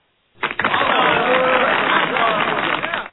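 A tractor engine cranks to life and runs with a loud, rough chugging roar for nearly three seconds before cutting off abruptly.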